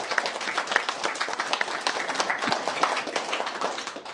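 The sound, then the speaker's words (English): A crowd applauds steadily, many hands clapping in a dense, even patter that holds at a fairly strong level for about four seconds, with no voices standing out. “So a round of applause for all three of them.”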